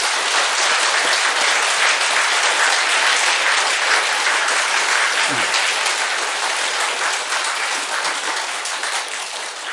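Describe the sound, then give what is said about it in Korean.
A crowd applauds steadily and loudly, a dense wash of many hands clapping that holds for the whole stretch and eases slightly toward the end, with no voices standing out. “그렇게 한 사람 한번 박수 한번 쳐봅시다.”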